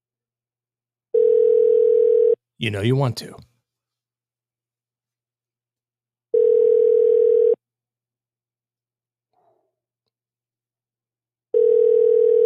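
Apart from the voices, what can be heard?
telephone ringing unanswered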